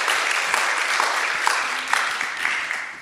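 An audience applauds steadily to welcome a speaker coming up to share about community groups, a dense wash of many hands clapping at an even level for a few seconds without voices rising above it.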